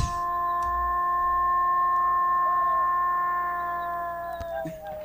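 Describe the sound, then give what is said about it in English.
A wolf howl sound effect: one long, steady, drawn-out note that holds for several seconds, clear and fairly loud, with a faint wavering near the end and no voices. “No wolves. Wolves in Walton County, Florida.”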